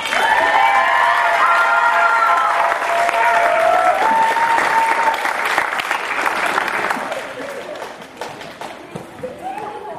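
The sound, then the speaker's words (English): Loud, sustained audience applause for the performers at the end of a show, with scattered cheers and whistles, dense clapping that holds steady for several seconds before thinning out and fading toward the end. “Let's give one more round of applause to all of our performers.”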